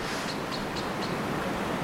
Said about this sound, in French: L'eau ? Ouais.